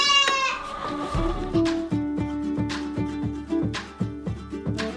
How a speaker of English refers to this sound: She picked out a couple, so let's meet the newest goats on the homestead farm. So it's time to do the goats, my goats.